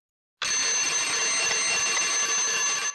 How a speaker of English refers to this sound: The alarm clock is ringing. It's 6 a.m.